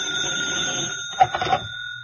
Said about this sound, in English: When I woke up, the telephone had been ringing for a long time. It was past noon. That horrible, insistent bell beat its way into my consciousness.